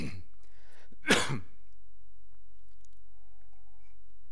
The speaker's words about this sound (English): That's that season, isn't it, of the allergy tickle cough.